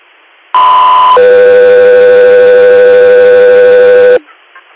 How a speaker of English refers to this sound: Guthrie Air, standby for tones.